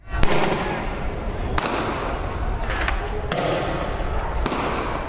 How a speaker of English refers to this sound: Police firing tear gas as protests continued in the capital Quito for a 10th day. They began over austerity and the end of fuel subsidies.